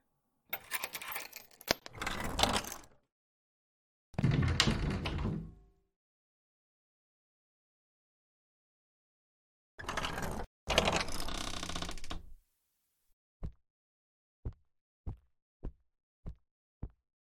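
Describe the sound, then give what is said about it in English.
A mechanical door grinds open in several loud, whirring bursts separated by pauses, followed by a run of sharp, evenly spaced ratcheting clicks as the gears lock into place. “You did tell him he could come out when the door opened, right?”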